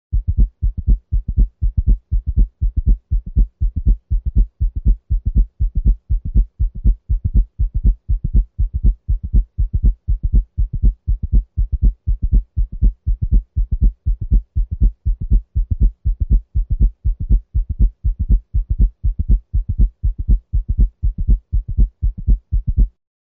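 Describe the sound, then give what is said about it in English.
A fast, steady heartbeat at 120 beats per minute, heard at the left apex with the bell of a stethoscope, with a fourth heart sound (S4) giving each cycle a quick triple cadence of dull, low thumps. No voices, just the repeating rhythm throughout. “We will now listen to S4 at the left apex using the bell of the stethoscope.”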